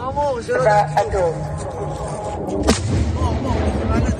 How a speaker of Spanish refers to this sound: Misiles contra Israel que eran repelidos por el sistema de defensa llamado Cúpula de Hierro, como estás escuchando.